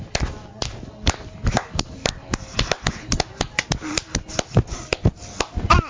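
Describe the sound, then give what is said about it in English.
Hands clap in quick, uneven bursts, about twenty sharp claps over several seconds, with faint voices murmuring underneath. “Firecracker, clap your hands.”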